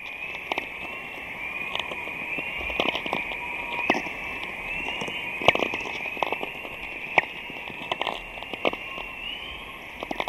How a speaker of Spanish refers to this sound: con el sonido chispeante de las auroras boreales